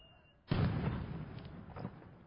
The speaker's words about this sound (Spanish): Con muchos cohetes, muy bien.